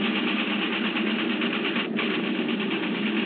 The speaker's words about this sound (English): Cylinder head temperature on one and two, over the red line. Open the cowl flaps another 2 degrees, cool them off. It'll slow us down. I can't help it. These engines have got to get us back.